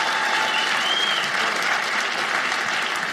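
At a live show, an audience applauds steadily for a member of the audience at the performer's request, a dense wash of clapping from many hands that holds at an even, fairly loud level for a few seconds without pause.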